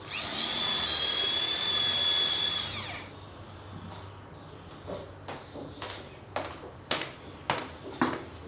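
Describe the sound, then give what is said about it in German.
A power drill whines loudly and steadily for about three seconds while drilling a hole in a dining room, then stops, followed by a series of sharp clicks and light knocks as the bit is withdrawn and handled. “Moment, ich muss gerade noch ein Loch bohren.”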